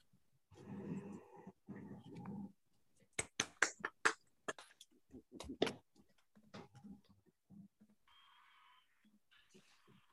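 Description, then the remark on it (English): A clapping sound effect played in case live clapping is not loud enough because many participants are muted: a quick, uneven run of loud, sharp claps, preceded by a harsh buzzing noise and trailing off into fainter scattered sounds. “That's the clapping sound effect I have just in case the clap's not loud enough because, you know, half the people muted.”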